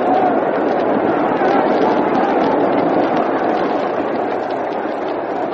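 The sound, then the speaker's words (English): A baseball crowd at a Yankees–Cardinals game yells after a long foul ball down the right field line, a dense, continuous roar of many voices, loud and steady throughout with no single voice standing out. “Can you hear that yelling from the crowd?”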